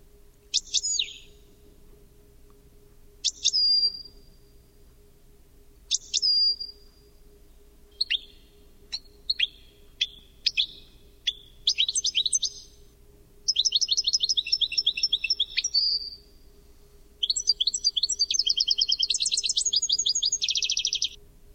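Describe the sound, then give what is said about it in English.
A European goldfinch sings alone, starting with separate bright chirps and building into rapid, tinkling twittered trills, clear over a faint steady low hum. “And in order to demonstrate that, I'm going to play you here now a little 22-second sample of an Italian of a European goldfinch.”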